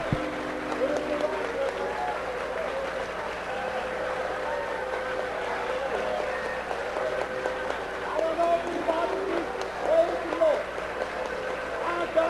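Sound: audience clapping hands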